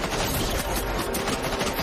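A dense burst of rapid gunfire after an order to fire, shots overlapping in a loud, continuous crackle with no voices, like several weapons firing at once.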